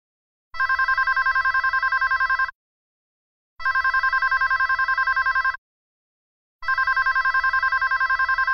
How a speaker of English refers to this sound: Lynn, are you going to answer that? I think that's your phone.